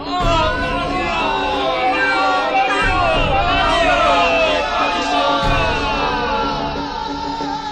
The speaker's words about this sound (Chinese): 巴利的众先知七手八脚的把牛切成了一块块的摆在祭坛上，然后450个先知围着祭坛就开始做法，大家又吼又跳的忙个不停。